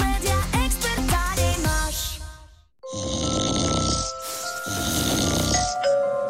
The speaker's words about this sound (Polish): Dochodzą mnie słuchy, że pani mąż chrapie jak niedźwiedź.